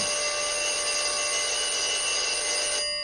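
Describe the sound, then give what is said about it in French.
An old telephone bell rings in one long, continuous, loud metallic burst, then cuts off abruptly near the end. No voices are heard. “Le téléphone sonne.”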